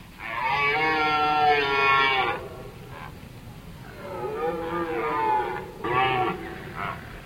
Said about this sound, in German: Sagt der Wildhüter Bruno Dauwalder, durchs ganze Tal röhren die Hirsche.